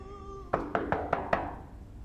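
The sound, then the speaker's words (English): Five quick, evenly spaced knocks on the wooden front door of a luxury house, fairly sharp, in a steady rhythm after a moment of quiet background hum, with no one speaking. “She knocks again, and the door pops open.”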